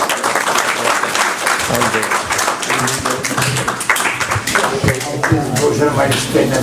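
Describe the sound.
A room full of people applauds a speaker steadily for several seconds, a dense, continuous wash of clapping, with faint voices murmuring underneath.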